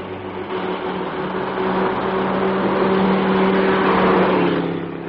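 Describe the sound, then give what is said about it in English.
A large German car's engine drones steadily with a low humming tone on a lonely stretch of road, swelling louder as it comes up from behind and overtakes, then easing off slightly at the end; no one speaks. “This is a lonely stretch of road, and there's a large German car coming up behind us. Ah, she's going to pass.”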